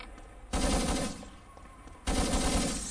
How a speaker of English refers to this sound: Orcus shooting out the glass on the second-story window.